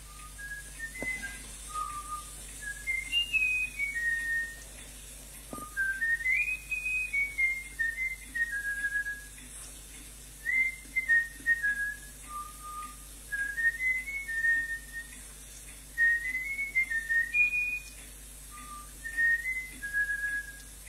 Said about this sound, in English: Now the recording of the trainer whistling to the bullfinch.